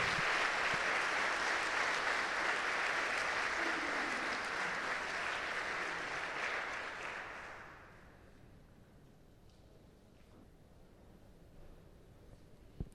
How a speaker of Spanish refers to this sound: Escuchamos también los aplausos.